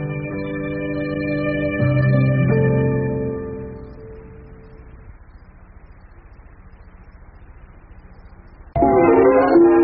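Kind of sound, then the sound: vehicle, train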